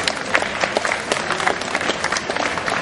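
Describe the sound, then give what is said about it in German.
An audience applauds the top 5 of a competition, standing beside the stage, steadily, a dense wash of many hands clapping at once with scattered sharper claps standing out, sustained and fairly loud throughout without any talking. “Einmal Applaus für die Top 5.”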